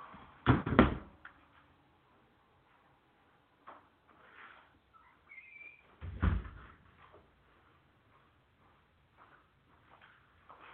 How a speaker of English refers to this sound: Let me close this damn door before we get any further in this, man. Give me a minute here, guys.